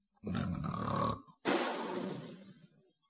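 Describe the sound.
A voice imitates the thunderous snoring of Meng Chunda sleeping stretched out on a bed: a long, rumbling inhaled snore followed by a shorter pause and a breathy, rasping exhale that fades out, loud with no talking.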